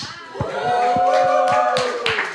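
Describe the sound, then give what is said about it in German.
A small studio audience at Marienstraße 11, asked to make some noise, claps sparsely, a handful of hands beating a loose, fairly steady rhythm, while a voice calls out over the applause. “Ja, der Applaus ist noch akademisch. Da gibt es noch Lücken.”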